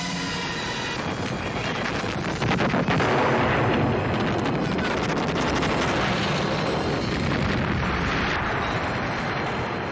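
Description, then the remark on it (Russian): Loud, dense battle noise of artillery firing cannons in a battle between Napoleon's French army and the Russians fills the whole stretch: repeated booming cannon blasts and cracking gunfire merge into a continuous roar, with no voices heard. “Артиллерия ведет огонь из пушек.”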